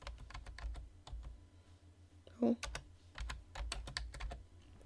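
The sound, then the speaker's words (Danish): Rapid keystrokes on a computer keyboard clatter in irregular bursts, fairly quiet, with a brief pause and a slightly louder clack midway before the typing resumes, as someone types in their CVR business registration number. “Og her er det så vigtigt, hvis jeg er momsregistreret, at jeg skriver mit CVR-nummer.”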